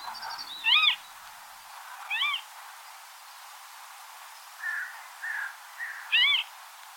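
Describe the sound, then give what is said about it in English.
A reed-bed bird of prey calls in a handful of sharp, high, wavering cries spaced a few seconds apart, with softer shorter calls in between, over a faint steady background hiss. “Let's listen to their call.”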